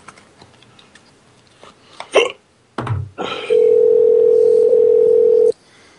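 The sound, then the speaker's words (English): After a few soft clicks and a burst of handling noise, a single steady ringback tone plays for about two seconds on an outgoing phone call to a Waffle House restaurant, loud and clear, with no voices. “She's not going to answer.”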